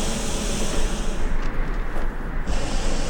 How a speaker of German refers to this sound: Tut, was ich sage! Zündet den Brenner! Den Brenner zünden! Wie geht das? Ich hab gestern zugesehen. Hier, der Hebel! Feuer frei!